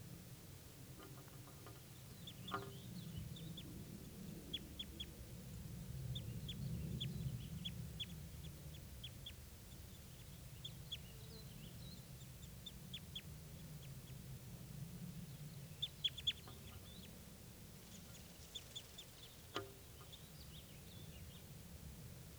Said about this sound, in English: After recording, there's still a male and female here. Foraging in the aspens. Stop. Start recording, these are the birds.